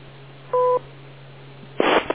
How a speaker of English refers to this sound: Wait for the beep.